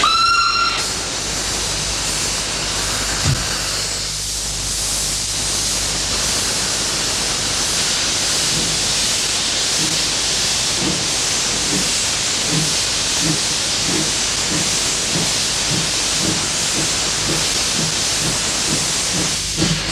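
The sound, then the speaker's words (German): A steam train whistle sounds briefly at the start, then loud, continuous hissing steam takes over, with a steady rhythmic chuffing emerging beneath it. The train is a women's train departing for Beijing for the 4th World Conference on Women in September 1995. No one speaks. “Zug gibt es tatsächlich.”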